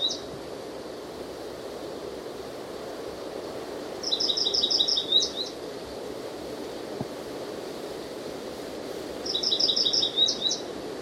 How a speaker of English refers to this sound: I can't see the bird. On again. This is up in either a patch of pine, I think, about 30 or 40 feet up, or in an adjacent evergreen oak.